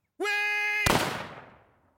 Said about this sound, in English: He dropped to his knees, reaching for the gun, but Walt had already fired. Roscoe startled awake at the gunshot.